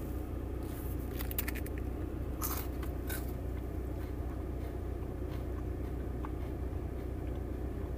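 Someone bites into a slightly melted lemon-flavored Kit Kat bar: a few sharp, crisp crunches in quick succession, then fainter crackly chewing, all over a steady low rumbling hum with no talking.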